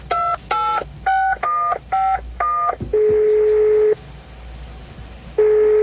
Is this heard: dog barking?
no